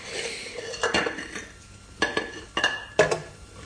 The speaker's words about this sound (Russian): Вытирай тарелки, если тебе мытье не по вкусу.